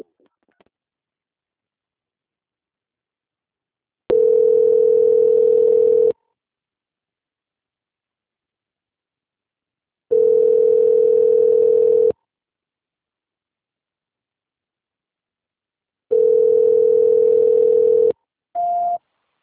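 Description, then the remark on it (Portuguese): A telephone line tone while a call is transferred to a bank's quality department (Banco Santander): three steady, two-second hums spaced several seconds apart over silence, then a brief higher beep at the end. No voices. “eu vou encaminhar sua ligação para a Central de Qualidade do Banco Santander prosseguir com as confirmações.”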